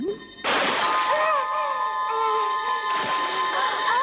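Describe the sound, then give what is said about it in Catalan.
Water bursts up in a sudden loud splash as swimmers surface after swimming through a tunnel, then keeps sloshing and churning for several seconds, with a steady tonal drone running underneath. “Els amics treuen el cap de l'aigua i observen una estàtua d'un gran Buda amb una dotzena de braços.”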